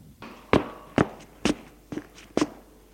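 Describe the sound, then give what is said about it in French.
Five footsteps of a man who has just left a bedroom walk along a corridor at a steady, unhurried pace, each a crisp heel strike on a hard floor, with no voices. “Longe un couloir.”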